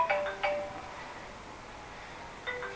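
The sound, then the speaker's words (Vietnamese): A phone's electronic ringtone chimes in short bright bursts, two close together at the start and another near the end, with quiet background between and no talking. “Chúng ta có điện thoại xe gọi đi.”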